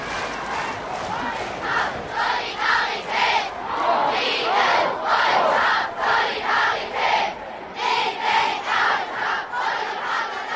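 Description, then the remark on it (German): A large crowd cheers and shouts in rhythmic bursts, voices rising together in repeated hurrah-like chants, loud and sustained across the whole stretch. “Haben wir das gemacht, gejubelt, geklatscht und hochgerufen?”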